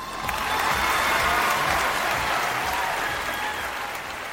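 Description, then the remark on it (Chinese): Steady applause from an audience fills the room, a dense, sustained clatter of many hands clapping at once, fairly loud and unbroken for several seconds with no talking. “听懂掌声。”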